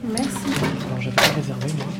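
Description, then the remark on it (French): A discreet wooden door creaks and thumps open with a short, scraping burst, while voices murmur continuously in the background. “On ouvre une discrète porte en bois, on descend trois marches”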